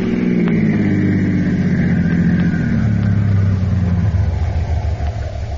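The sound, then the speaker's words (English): A car engine hums steadily and loudly as the vehicle drives on a mountain road, its low drone dipping in pitch midway as if shifting or easing off, with no voices. “These mountain roads are tricky.”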